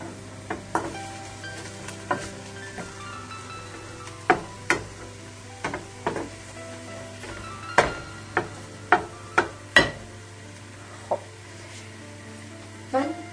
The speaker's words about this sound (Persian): برای مبتدی ها میگم این رو که قاشقتون رو میبرین زیر مواد برمیگردونین رو، میبرین زیر مواد برمیگردونین رو. این یه نوع هم زدنه که مطمئنید که موادتون داره زیر و رو میشه و در این حال با هم دیگه مخلوط میشه.